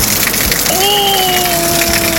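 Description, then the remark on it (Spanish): Heavy rain pours down in a dense, steady hiss on the road to Antuco at the Zapata bridge, with a sustained droning tone rising out of it partway through. “Oye, pero ahí está lloviendo fuerte, po.”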